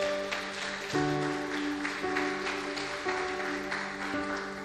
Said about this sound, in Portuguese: Aplauda a Ele se você crê.